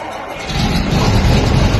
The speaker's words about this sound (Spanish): No, ese lo mandé porque es un tractor que compró mi padre cuando yo tenía 2 años, que lo seguimos teniendo, y con ese sonido me he despertado casi todas las mañanas de mi vida.